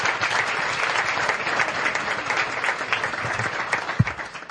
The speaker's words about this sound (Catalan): Doncs un fort aplaudiment per Ramon Vallès.